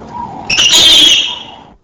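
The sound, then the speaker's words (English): A single harsh, high-pitched peep scream, a call between a peep yelp and a full scream, rises sharply, holds shrill and strained for about a second, then fades, heard alone with no talking. “Now, the peep scream, a vocalization intermediate between the peep yelp and screaming, example number 17.”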